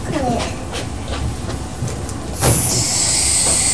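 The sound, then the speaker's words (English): A pink hoover vacuum cleaner runs with a steady, rushing roar. About two-thirds of the way through, a loud, high, hissing whine joins in and holds to the end. “That's the hoover over there.”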